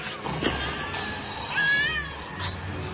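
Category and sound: animal, several cats meowing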